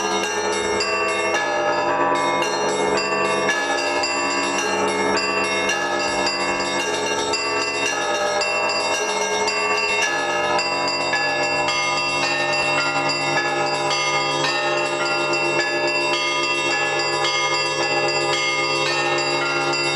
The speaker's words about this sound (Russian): И была такая тенденция, что колокольный звон распространялись по Волге.